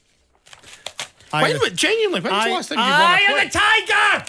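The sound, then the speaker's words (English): Crisp, quick rustling of paper sheets for about a second as they are got ready for a quiz, before a loud voice starts vocalizing in sweeping, sung-sounding tones that dominate the rest. “No, I'm getting my sheets of paper ready.”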